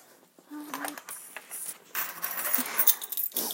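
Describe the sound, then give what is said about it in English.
A bright metallic jangle of keys being put in place while someone unpacks groceries after shopping, with a cluster of clinks and rattles over a few seconds and a final settling chink at the end. “Keys in place.”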